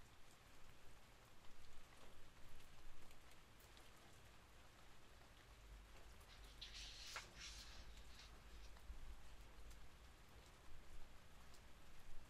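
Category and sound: nature, rain falling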